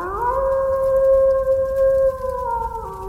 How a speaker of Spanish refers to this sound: Y en el silencio de la noche, había una voz que lo enseñaba todo. Una voz que el hombre europeo temió y persiguió, pero que el nativo americano abrazó como a un hermano de sangre. Hablamos del lobo.